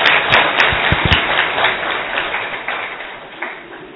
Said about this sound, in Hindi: हम उनका जोरदार तालियों से स्वागत करेंगे।